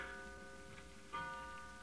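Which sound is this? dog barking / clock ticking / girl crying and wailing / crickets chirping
clock ticking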